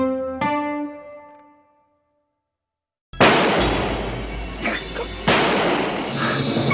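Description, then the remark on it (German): A ringing musical chord fades into silence, then loud gunshots burst in over a dense, noisy wash, with several more sharp cracks spaced unevenly over the next few seconds: the shots at J.R. Ewing that ended the third season of a television series in spring 1980. “Das waren die meist beachteten Schüsse der Fernsehgeschichte im Frühjahr 1980 und sie galten J.R., Kronprinz der texanischen Öldynastie der Ewings.”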